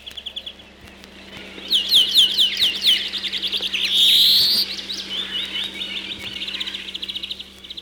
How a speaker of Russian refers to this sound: Мы слушаем зеленушку и скворца. Они выводят те же трели, как и в то далекое время. Время медленно старит песни птиц.